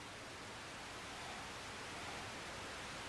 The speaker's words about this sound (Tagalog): Mag-static ang television.